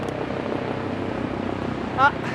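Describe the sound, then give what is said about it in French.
A steady, droning rotor-like rumble fills the background throughout as a helicopter passes overhead, with a brief louder burst near the end. “Ah, il y a un hélicoptère qui me survole.”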